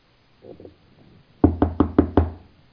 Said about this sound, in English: I said, "Give me one more time and I'll knock on the door the third time."